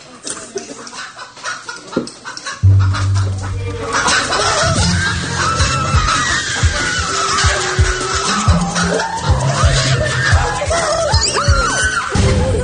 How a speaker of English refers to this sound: Holy crap, it's just chickens.